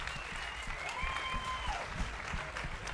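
An audience at a live stage performance applauds steadily, a dense wash of clapping that holds at an even level for the whole stretch, with a few faint whistle-like tones rising and falling above it.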